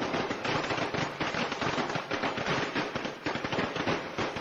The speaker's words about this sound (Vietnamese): nói vậy là quý vị cũng đã hiểu rằng là cái tiếng pháo của chúng ta đã không còn, lâu lắm rồi không nghe tiếng pháo tại Việt Nam. Thì bây giờ chúng ta sẽ được nhắc lại cái tục đốt pháo trong cái đêm giao thừa như thế nào nha thưa quý vị.